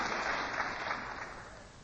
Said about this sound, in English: I got a little loud here, didn't I? I'm sorry, but no clapping, please. Hold.